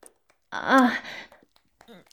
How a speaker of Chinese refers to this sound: 什么？我喘气？